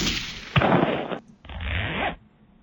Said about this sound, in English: That was a zipper.